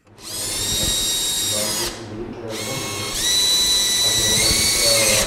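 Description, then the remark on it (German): A power drill whines in a steady, high-pitched tone during the renovation of an old rear-courtyard building in the Bahnhofsviertel of Frankfurt am Main. It cuts out briefly, then starts again and rises to a louder, higher whir, with faint clatter underneath. “Sanierung eines Altbaus im Bahnhofsviertel von Frankfurt am Main. Es ist ein Hinterhofgebäude, das aufwendig renoviert wird.”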